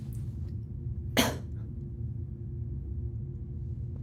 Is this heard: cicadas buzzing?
no